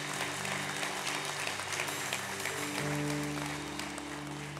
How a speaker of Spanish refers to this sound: Sí, dale un aplauso, eso es, sí, claro que sí, ¿por qué no?